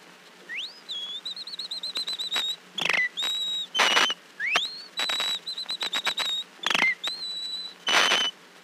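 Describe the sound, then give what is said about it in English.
A person whistles an imitation of the early-morning song of the wren, a small bird: quick rising slides and warbling trills broken by sharp chirpy bursts, the phrase repeated twice, clear with no talking. “The wren is a small bird that whistles early in the morning like this.”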